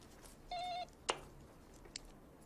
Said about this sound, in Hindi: क्योंकि हमेशा हल्की सी घंटी बजाता है, फिर चाबी से दरवाजा खोल के अंदर आ जाता है।